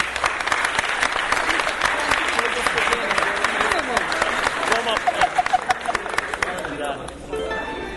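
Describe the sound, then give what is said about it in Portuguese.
A crowd applauds loudly and steadily, dense clapping with some cheering voices mixed in, lasting several seconds before thinning out near the end. “receba uma salva de palmas do povo da vela, vó!”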